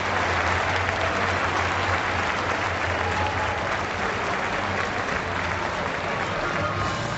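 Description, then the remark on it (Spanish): A large crowd at El Molinón stadium applauds and cheers its own team in a steady, dense roar of clapping that fills the whole stretch, loud and sustained without letting up, with no distinct voices rising above it. “Se van los hombres de la Unión Deportiva Las Palmas hacia esa esquina donde se sitúan los aficionados canarios, y esta es la ovación del público del Molinón hacia los suyos.”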